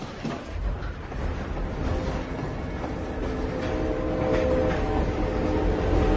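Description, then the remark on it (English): A train rolls steadily along the tracks, a continuous low rumble with faint metallic whining and clatter, growing slightly louder toward the end, with no voices. “This is the railroad. The romance of the rails.”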